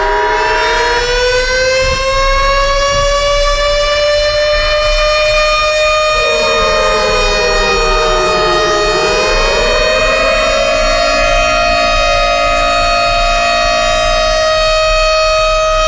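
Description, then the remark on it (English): A loud civil-defense siren wails steadily for the whole stretch, its rich harmonic tone holding high, then dipping and swelling back up midway before sustaining again. No one speaks. “The alarms go off. Sound the alarms.”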